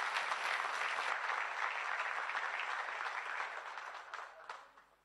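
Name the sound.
audience applauding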